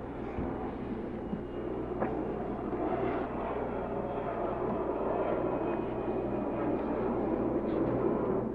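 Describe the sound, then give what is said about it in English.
A steady, broad roar of a jet aircraft fills the whole stretch, a dense rumbling wash with a low hum underneath, holding constant loudness with no voices. “Can you hear that jet?”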